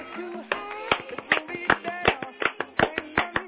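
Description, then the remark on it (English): A steady series of sharp hand claps on beats one and three, roughly evenly spaced at a moderate tempo, falls over voices that carry on underneath. “You clap on 1 and 3.”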